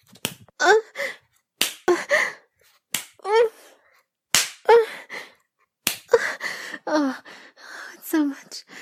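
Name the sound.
hand slapping skin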